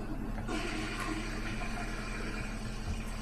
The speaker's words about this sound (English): Let's just do the toilet flush just for the lulz.